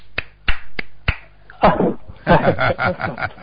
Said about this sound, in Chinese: 没人 好 咋没人鼓掌啊？来，我来帮你鼓两下。